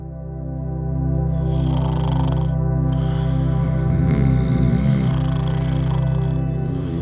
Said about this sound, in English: We all know someone who snores a lot. Whether it's your spouse or your roommate or even your dog, snorers are everywhere.